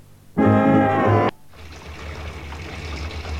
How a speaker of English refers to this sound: Can you hear the water splashing? Why? Someone must be in the bathroom. What's so unusual about that? My son is in the bathroom. And that is unusual.